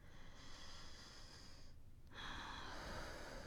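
Heavy breathing with no talking: a long, airy breath, a brief pause, then a louder, slightly ragged breath, as someone settles after crying from a bad dream.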